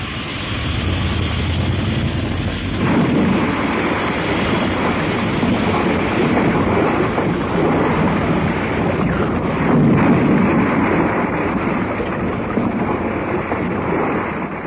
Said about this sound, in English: I do not want to waste our helium in landing perfectly. Well, save the gas. Go ahead and smack the water as hard as this ship will stand.